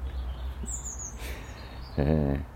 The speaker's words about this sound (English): Damn seagulls.